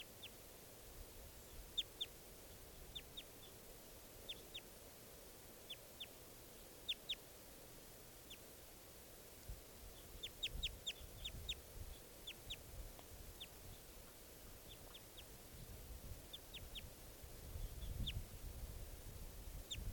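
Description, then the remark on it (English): Wild birds call in quick, high-pitched bursts of short chirps, grouped in clusters of several notes and repeating throughout, over a low rumbling background with no talking. “Troops of 3 or 7 there, wild bird calls.”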